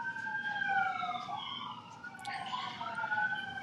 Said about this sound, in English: I'm waiting because we have some police and fire trucks and whatever outside again.